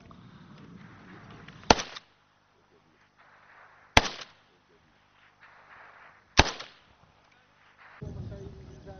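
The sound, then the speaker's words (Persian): Three sharp, loud gunshots ring out at steady intervals of a couple of seconds, each a sudden crack with a brief echoing tail, over a low background rumble and faint murmuring, as Iraqi Kurdish Peshmerga forces on the Bashiqa front fire toward Islamic State militant positions about 800 metres away. “نیروهایی که تحرکات شبه نظامیان را رصد می کنند و گاهی با دیدن حرکتی به سمت آن شلیک می کنند.”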